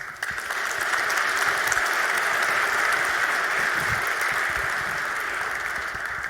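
Steady audience applause, a dense wash of many hands clapping at an even, sustained level for several seconds, with no voices over it.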